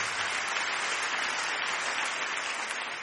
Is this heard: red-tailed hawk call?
no